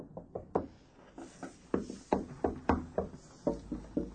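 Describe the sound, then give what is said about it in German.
A series of firm knocks on a wooden bookshelf to test for a hidden door, about a dozen irregularly spaced raps, fairly loud, with no voices; it sounds solid, with an exterior wall behind it. “Ach, hört sich massiv an. Dahinter ist eine Außenwand.”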